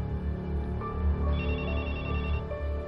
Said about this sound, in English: Mom, can you answer the phone, please?